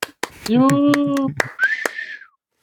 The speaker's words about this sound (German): Jubiläum, wir haben die 51. Folge und feiern deswegen unser 51. Jubiläum. Beifall!